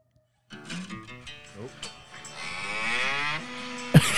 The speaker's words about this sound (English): Cow sounds. Cows? You're correct.